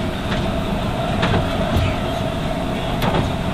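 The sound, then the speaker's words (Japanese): Steady rumble of the temporary rapid train Moonlight Shinshu No. 81 in motion, heard from inside a carriage, with a constant low roar, a faint hum and occasional brief rattling clicks over the tracks. No one speaks. “本日は臨時の快速ムーンライト新州81号ご利用くださいましてありがとうございます。次の停車駅立川です。”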